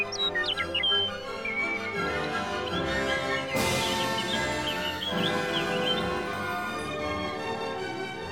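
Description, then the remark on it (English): Birds chirp and sing steadily over a dense, continuous backdrop of sound, with a bright burst swelling up midway through; no voices are heard. “In fact, Hansel and Gretel and their father never again ate another meal without sharing it with the birds who'd sung them safely home.”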